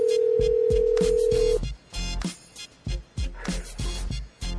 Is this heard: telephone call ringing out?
yes